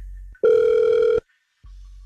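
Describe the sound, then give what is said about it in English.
A single loud burst of a phone's ringback tone, a steady buzzy electronic ring lasting under a second, followed by a brief silence, with a low line hum before and after, as a radio station places a call to a man. “So listen, we're going to call him next.”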